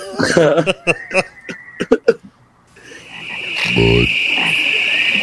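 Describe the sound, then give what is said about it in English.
Sharp, choppy clicks and croaky bursts give way to a steady, shrill high-pitched tree frog chorus that drones on continuously, with one loud, low, rasping call cutting through midway. “Oh, speaking of tree frogs.”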